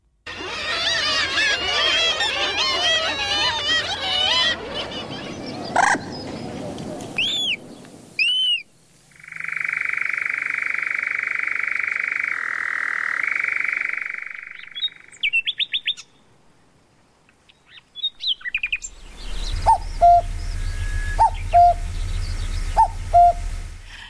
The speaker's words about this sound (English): Those are some of the birds mentioned in the book that are in decline, including the nightingale and the cuckoo.